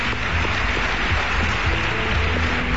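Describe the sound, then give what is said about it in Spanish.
A TV studio audience on the programme Espacio en Blanco claps before a break for the crew working there, a dense, even wash of many hands applauding at a constant loudness for a few seconds, with a low murmur beneath and no clear speech. “Regresamos enseguida, un aplauso, sobre todo para nuestros compañeros que están aquí trabajando.”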